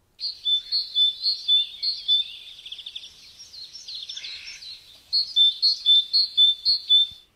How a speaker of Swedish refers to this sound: Men den är ganska gullig, vill jag minnas. Vi tar och lyssnar på hur talgoxen låter. Är du beredd? Ja. Det kommer två gånger.